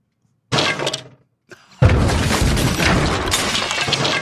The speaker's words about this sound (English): because we actually have the moment right here on the show where Rob's grandfather clock seized.